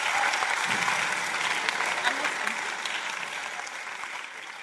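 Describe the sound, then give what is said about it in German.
Sustained audience applause, a dense, steady wash of many hands clapping at once, loud, gradually tapering slightly toward the end. “Sie können sich, glaube ich, gegenseitig schon mal auf die Schulter klopfen und jetzt bitte nochmal einen richtig ordentlichen Applaus.”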